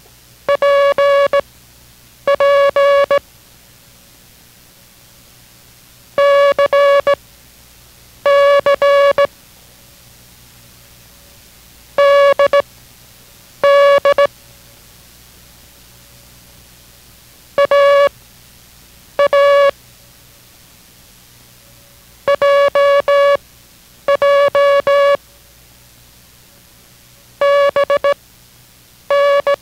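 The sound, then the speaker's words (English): A steady mid-pitched Morse code tone sends characters for copying practice in repeated pairs, each burst of beeps sounding twice before a pause, with no talking. Six such pairs follow at an even pace: the characters P, C, D, A, J and B (Peter, Charlie, Dog, Abel, Jig, Baker). “Now we will send another group with the answers at the end of the group, but this time each character will be sent twice. Copy it only once, but concentrate on the sound each time.”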